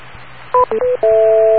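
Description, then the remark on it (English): Touch-tone telephone dialing into an EchoLink amateur radio node: three quick, loud keypad beeps in a row, followed by a longer steady dual tone held to the end, over a faint background hum with no voices. “when he dials in with his telephone, can dial into 85375 or 9125”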